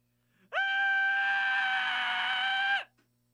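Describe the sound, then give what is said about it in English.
A single loud, high-pitched scream held steady for about two seconds, alone, starting abruptly and cutting off cleanly with no talking around it. “Here, we're gonna do a real quick scream, and then we're gonna go into some messages.”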